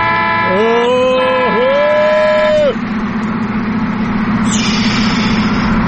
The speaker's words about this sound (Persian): اون نگاه کنه نیسان تزوری داره رانندگی میکنه، بذار یه بوق واسش بزنم ششش حال بیاد.